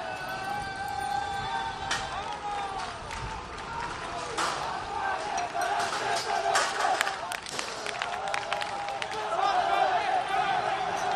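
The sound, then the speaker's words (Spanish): A lively street crowd of protesters at the intersection of Gran Vía and calle Nápoles cheers and shouts together, celebrating as the police withdraw, with scattered clapping, sharp bangs and running footsteps breaking through a steady roar of many voices. “Y ahora mismo escucha el sonido porque están celebrando cómo se marchan.”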